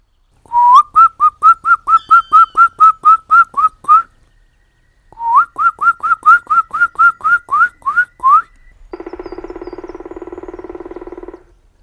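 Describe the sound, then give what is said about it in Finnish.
A person whistles two quick runs of short, rising notes in imitation of a black woodpecker's call, as a greeting to the bird calling from the side of a large dead pine at a clear-cut, pausing between them. A steady, harsh buzzing sound follows for a few seconds. “Ehkä vähän vihellelläkin seuraksi, palokärki voi vaikka vastata tervehdykseen.”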